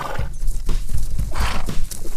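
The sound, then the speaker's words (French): A ridden horse gallops, its hooves pounding in a quick, driving rhythm, with a high whinny breaking through partway. No voices, just the loud, energetic run. “Nous devions prendre le galop et rejoindre plus vite les nôtres pour espérer survivre.”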